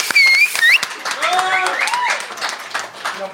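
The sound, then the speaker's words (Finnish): A live audience breaks into loud, dense applause, with scattered claps blurring together, sharp whistles rising and falling, and cheering voices mixed in throughout. “Mutta ensin siis annetaan valtavat aplodit.”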